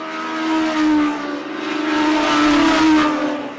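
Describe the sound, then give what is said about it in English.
Roaring engines of stock cars racing around the Oxford Plains Speedway track in Oxford on opening day drone continuously, swelling and fading as they circle past, a loud, dense mechanical rumble with rising pitch sweeps and no voices. “Good afternoon, ladies and gentlemen, and welcome to another action-packed season of stock car racing competition here at Oxford Plains Speedway.”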